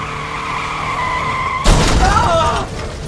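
A steady engine drone is cut by a sudden loud crash at about 1.7 seconds, followed by screeching, squealing tires and rattling debris as a 4x4 car skids and smashes through a fence while Egyptian soldiers dive out of the way.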